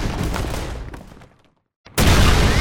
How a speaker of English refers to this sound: The outlaws raced south, guns banging behind them, discouraging pursuit.